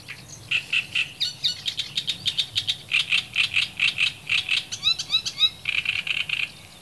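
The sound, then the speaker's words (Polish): A great reed warbler sings a loud, harsh chattering song of grating notes repeated in rhythmic runs, with a few brief whistled phrases partway through, over faint low background hum. “O czym śpiewa trzciniak?”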